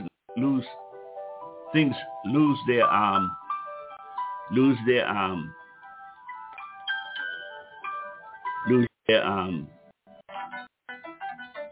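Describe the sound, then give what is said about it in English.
A phone rings with a steady, melodic electronic ringtone that keeps playing throughout, while a person speaks over it in short bursts. “Who's ever calling?”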